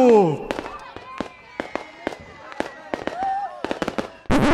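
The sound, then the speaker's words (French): Fireworks and firecrackers pop and crackle in a rapid, irregular string of sharp bangs, with a whistling rocket streak and crowd voices faintly underneath. “Ok, stop, on arrête là, on range les feux d'artifice, les pétards s'il vous plaît, merci.”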